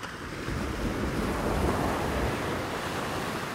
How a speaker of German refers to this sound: Die Strömung ist der Wahnsinn. Die Wassermassen drücken mich zur Seite. Ich merke, wie ich immer weiter abgetrieben werde und nichts dagegen tun kann. Die Wellen sind richtig groß. Sie werfen mich einfach um, treten mir in den Bauch, lachen mich aus.